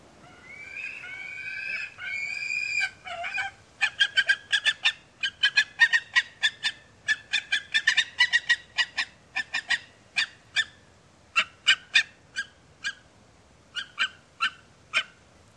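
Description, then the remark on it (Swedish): A pair of gyrfalcons call at their nest site in Västerbotten: harsh, rapid, cackling notes that start as rasping wails and break into a long series of loud, evenly spaced chattering bursts. “Jaktfalkar vid sin häckningsplats på hemlig plats i Västerbotten.”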